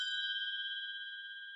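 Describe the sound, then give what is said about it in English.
A single electronic doorbell chime tone rings out clearly and sustains, fading slowly over under two seconds, with no voices: a smart doorbell's motion alert, sounding when a person walks up into the area near a house's front door. “When a person in the car or who walks up gets into the area near the front door, we hear this.”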